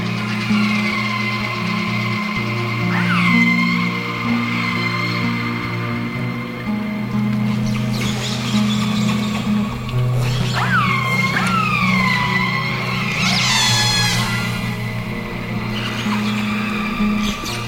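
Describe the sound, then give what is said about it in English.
Whale calls recorded by an underwater hydrophone: a few squealing, upward-sweeping cries rise out of a constant low engine-like drone, with a brief cluster of them near the end. “They are wonderful sounds to listen to, especially at night when we're camped or anchored in our boat and we have our hydrophone, underwater microphone, hanging off the side of the boat.”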